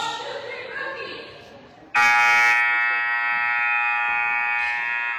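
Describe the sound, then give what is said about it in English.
A loud, sustained buzzer blares abruptly and holds steady for several seconds at a basketball game, following a stretch of murmuring crowd noise. “Long buzzer.”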